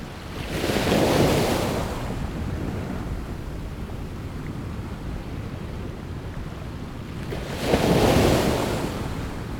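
Broad rushing ocean waves wash past steadily as the ship Ogasawara Maru sails the open sea, with two louder surging swells near the start and end, over a constant low roar of wind and water.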